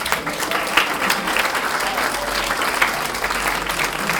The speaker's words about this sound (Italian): Un bel applauso a entrambi.